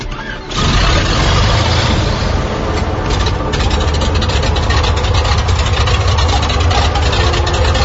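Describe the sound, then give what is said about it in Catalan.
Inside a small airplane recreating a historic first flight, the engine runs steadily and loudly, a dense low droning hum that swells up after a brief quieter moment at the start and holds constant throughout. “Som dins d'aquesta avioneta.”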